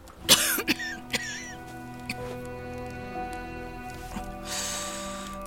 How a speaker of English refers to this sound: feels another coughing spasm swelling inside her chest. Every cough rips through her like a blow to the heart.